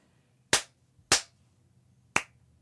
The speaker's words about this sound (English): Now, you just listen. When I clap my hands one time, the echo will come back one time. Listen.